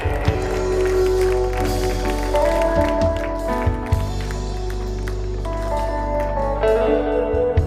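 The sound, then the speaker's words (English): An audience claps their hands for the Lord in an evening service, a steady, dense wash of applause that continues for several seconds, blended with sustained musical tones and a low hum underneath. “Can we give a hand clap to the Lord this evening?”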